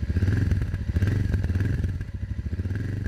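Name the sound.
motorcycle engine running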